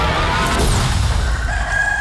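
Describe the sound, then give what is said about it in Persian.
A rooster crows, a strained, wavering call that rises and holds near the end, set against a loud, dense rumbling background that nearly drowns it. “هوس بوی شمال و نم بارون کردی که سحر خروس به خونه وسط جنگل”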